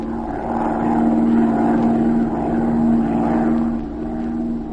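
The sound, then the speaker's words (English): A small propeller plane's engine drones steadily and continuously as it circles lazily over a city, a loud hum with a constant pitch that swells slightly and eases back, with no voices. “took off in Z's plane and began to circle lazily over the city”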